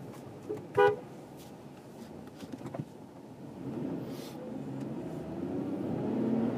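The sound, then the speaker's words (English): A single short, sharp car horn beep near the start, honked in San Francisco at a City of Oakland taxi cab pulling a U-turn from the right lane at a green light, set against a steady rumble of traffic and engine noise that grows slightly louder afterward. “I don't beep all that often.”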